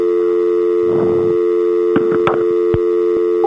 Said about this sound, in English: How did he know I was still on the line? I was playing a dial tone.